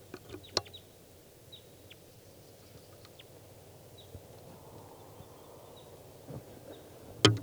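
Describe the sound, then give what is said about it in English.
A wild bird gives a few short, thin, high-pitched calls, spaced irregularly and fairly faint over a low, steady background rumble, with a couple of sharp knocks at the start and end. “Here's a wild bird.”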